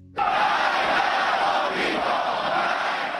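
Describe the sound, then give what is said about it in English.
A dense roar of many voices bursts in and stays loud and steady, crowds of Iranians in the streets of Tehran chanting "death to America" after the funeral for Iranian General Qasem Soleimani, filling the whole scene with no single voice standing out. “Chants of death to America, as crowds of Iranians, by some reports thousands or millions, took to the streets of Tehran after today's funeral for Iranian General Qasem Soleimani.”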